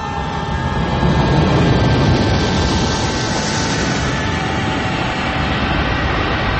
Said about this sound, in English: I need to sit underneath a plane when it's landing. I thought it was taking off. No, it was landing. Landing. It was landing.